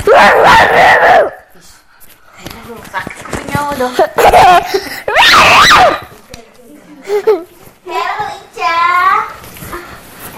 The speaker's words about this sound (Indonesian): Belum, kamu teriak-teriak sih.